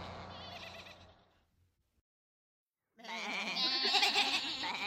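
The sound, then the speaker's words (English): Sheep on a road in front of a stopped bus bleat loudly in two bursts, a chorus of wavering cries, then a second of silence before another louder, overlapping round of bleats. “There are lots of sheep on the road.”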